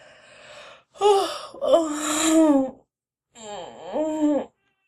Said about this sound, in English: Sorry, I'm in bed. Didn't mean to yawn in your ear.